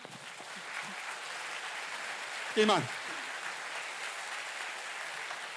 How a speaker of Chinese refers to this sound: OK， 我哋再一次以掌声。